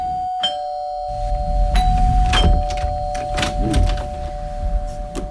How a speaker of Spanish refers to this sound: Es que como una de tus series o de tus películas, Noche de Tormenta, casa solitaria en la carretera y unos incautos, tú y yo, que llaman a un timbre.